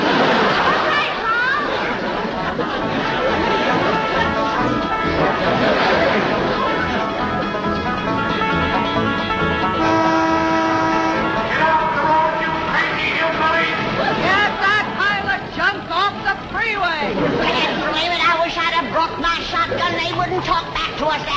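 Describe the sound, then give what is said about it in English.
Car horns honk repeatedly amid a dense, noisy traffic scene on a road, blaring in overlapping bursts while voices shout and chatter throughout. “They sound like mean, a honking and a yelling like they.”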